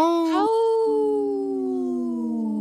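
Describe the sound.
A person imitates a wolf howl: a single long, wavering vocal tone that starts with a brief upward break, then holds steady and slowly drifts lower, loud.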